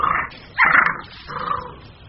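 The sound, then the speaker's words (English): Red fox cubs, of a family raised in tall grass in a meadow a short distance from Beijing, vocalizing: three short, whiny yelping squeals in quick succession, the middle one loudest, over a faint outdoor background with no voices. “In the tall grass, a family of red foxes is raising its cubs.”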